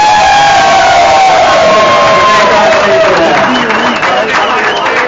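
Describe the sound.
A loud crowd in a bar cheers and applauds, with dense clapping, whoops and shouting voices filling the room for several seconds.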